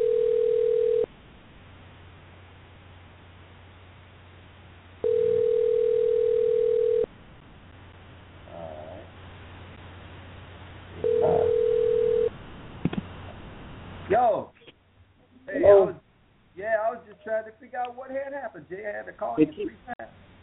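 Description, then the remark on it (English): A telephone line tone sounds in steady, mid-pitched bursts, three times with pauses between, over a low hum, as a call is tried again after the phone kept dropping. Then a person starts talking. “I know the phone kept dropping.”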